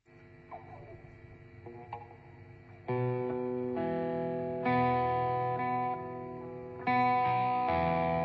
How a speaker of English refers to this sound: It's not the best sounding guitar amp in the world, but you can see it's quite noisy. This is where a noise gate would be useful.